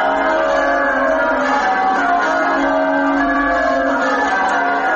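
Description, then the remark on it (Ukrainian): Church bells in Windsor, Britain, ring continuously in a dense, overlapping peal, their tones blending into a loud, sustained wash of chiming with no voices present, recorded on the eve of a British prince's wedding. “Якраз мій колега побував у Віндзорі і записав дзвони тамтешні.”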